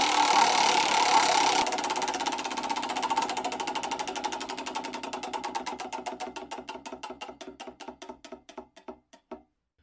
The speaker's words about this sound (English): Let's spin the wheel.